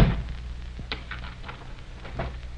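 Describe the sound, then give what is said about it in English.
A door closes with a dull thud, then a few faint metallic clicks and rattles follow as a lock is worked, over a low steady hum with no one speaking. “Lock the door”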